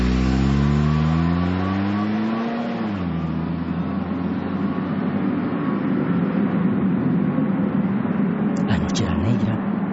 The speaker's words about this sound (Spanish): El papá sacó el camión y lo encendió para calentar el motor mientras terminaban de alistar la salida de emergencia.